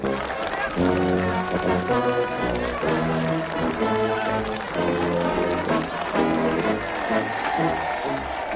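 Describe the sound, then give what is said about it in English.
Adults and children clap continuously along with a brass band playing steady, rhythmic chords, the applause a bright, dense layer over the music throughout. “Adults and children are smiling and clapping as the brass band plays on.”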